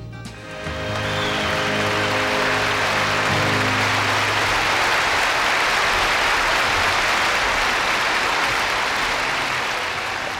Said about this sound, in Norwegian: Jævla greit å bare legge på applaus etter låta og få det til å høres ut som du har spørt den inn live, vet du?